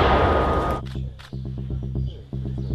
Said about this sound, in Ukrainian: Одна міна в вогонь. Одна міна в вогонь. Уха! Постріл!